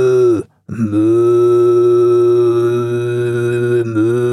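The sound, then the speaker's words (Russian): A person imitates a cow mooing with their voice, low and droning: a brief moo, a short pause, then one long, steady moo that holds for several seconds. “Корова, например.”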